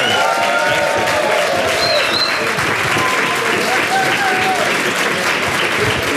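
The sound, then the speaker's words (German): Loud, sustained applause from an audience welcoming two founders of the Hamburg startup Tastillery. A dense, steady clatter of many hands clapping for several seconds, with faint cheers and whoops rising above it. “Und an meiner Seite begrüßen Sie jetzt bitte mit einem frenetischen Applaus zwei leidenschaftliche Genusstrinker aus Hamburg, extra angereist.”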